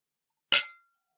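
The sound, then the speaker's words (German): A single bright clink of drinking glasses touching in a toast, crisp, with a short ringing tail that fades within a fraction of a second, surrounded by silence. “Stößchen, ihr Rührigs. Prost.”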